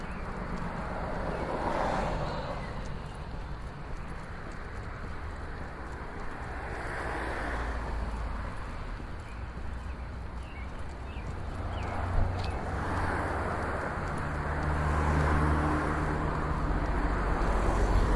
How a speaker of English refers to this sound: Alright, we're crossing a driveway going behind the car. He just pulled out, so now we're back onto the sidewalk.